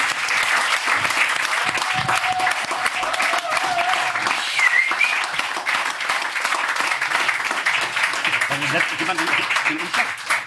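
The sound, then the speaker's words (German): A crowd applauds loudly and steadily for about ten seconds, a dense wash of many hands clapping at once, with a few voices and a faint whistle rising through it. “Dafür natürlich ein mega fetter Applaus”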